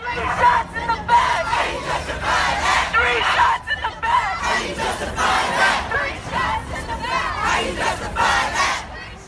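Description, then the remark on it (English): A large protest crowd in Pittsburgh, people demanding answers from authorities, chants and shouts together in loud, rhythmic bursts, many voices rising and falling over a steady roar of massed noise with no pauses. “Since the shooting, there have been protests in Pittsburgh, with protesters shutting down a highway this weekend and people demanding answers from authorities.”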